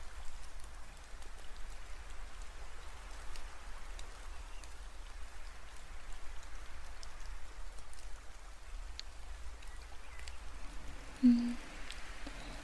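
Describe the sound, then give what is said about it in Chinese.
Steady rain falls in a soft, continuous hiss, with scattered drops ticking and one brief low thud near the end; no one speaks. “不过又开始下雨的话也是没有办法呢”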